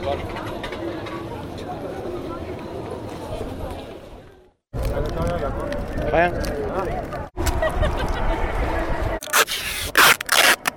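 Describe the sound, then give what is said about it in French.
Adhesive tape is pulled from a roll in several long, loud rips with brief breaks between them, ending in a few quick, sharp tearing bursts. “Le coup du son du scotch et tout, c'est pas mal aussi, tu vois.”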